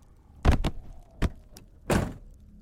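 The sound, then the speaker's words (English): A truck door slams shut with a heavy thud, followed by a few sharp mechanical clunks of the lock engaging, then one more solid knock, fairly loud, with no voices. “As soon as the weight of his body hit the front seat, the door slammed shut and locked, caging him.”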